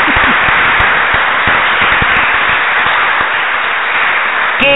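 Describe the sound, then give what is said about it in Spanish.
An audience bursts into loud, sustained applause for the Lord: a dense, steady wash of many overlapping claps that holds its intensity for about five seconds, with a brief tonal sound at the very end. “Demos el primer aplauso al Señor, ¿eh?”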